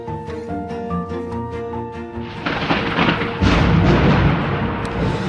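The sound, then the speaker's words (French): A sustained musical tone gives way to loud, crackling thunder that swells into a deep rumble and rolls on through the rest of the storm, with no voices. “Je craque, j'étincelle, j'allume le ciel, j'allume la terre, je suis l'orage.”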